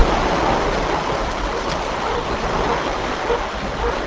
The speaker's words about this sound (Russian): Пока мы стоим и ожидаем в шлюзовой камере, по звуку воды можно догадаться, что вода прибывает.